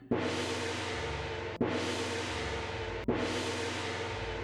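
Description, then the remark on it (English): A temple gong in the temple of INA is struck three times at an even, unhurried pace, each loud hit blooming into a bright, shimmering wash over a deep humming tone that carries into the next stroke. “The sound of the temple gong rang through the temple of INA.”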